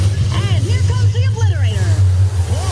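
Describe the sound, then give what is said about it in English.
Monster truck engines roar at a monster truck rally in a loud, steady low rumble, with rising and falling higher-pitched revving whines and indistinct announcer voices layered over the din. “Progressive presents Flo and JB announcing a monster truck rally.”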